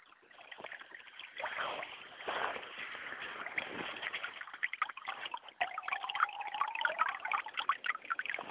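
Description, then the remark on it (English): Meltwater from melting snow runs and burbles steadily along a street gutter on a warm day, a continuous trickling and splashing with brief gurgling tones, with no voices over it. “That's the water running down my street from the melting snow.”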